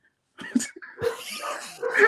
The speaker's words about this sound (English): The dogs are on a whole nother level right now.